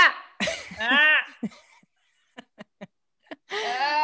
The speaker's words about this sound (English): Okay, oh, big cough. There you go. Is it stuck on the back of your throat? Little like weed crumbs?